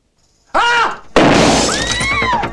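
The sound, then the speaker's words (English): A brief shout, then a loud shotgun blast fired in a bank at a glass counter screen shatters the glass, the crash spreading into a ringing, scattering tail of falling shards. “In a bank, a shotgun is fired at a counter screen. The glass shatters.”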